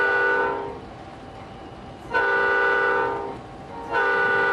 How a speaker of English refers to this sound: every time I come to a crossing, I blow the whistle, just in case there might be something approaching. It's a warning for anybody getting close to the railroad.